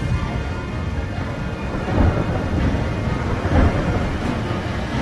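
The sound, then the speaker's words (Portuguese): Heavy flood rain falls on the earth, pouring down steadily, with deep rolling thunder rumbling underneath and swelling louder a couple of times. No voices, just a dense, continuous wash of storm noise. “No dia 17 do segundo mês, se arrebentaram todas as fontes do grande mar e foram abertas as janelas do céu. E caiu chuva sobre a terra durante 40 dias e 40 noites.”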